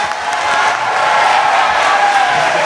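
A crowd applauds and cheers steadily, a dense wash of clapping with scattered whoops and shouts running loud and unbroken from start to finish.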